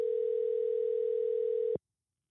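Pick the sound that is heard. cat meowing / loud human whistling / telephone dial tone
telephone dial tone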